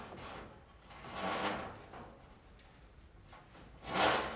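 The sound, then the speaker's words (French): A wooden pontoon creaks twice, a drawn-out groan of timber near the middle and a sharper, louder creak at the end, over a faint background with no voices. “Un ponton. Grincement de bois.”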